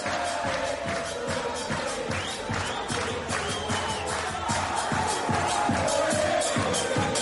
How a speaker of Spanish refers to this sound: Por la noche a las 10 la gente salió a las ventanas para aplaudir y gritar el nombre de Maradona.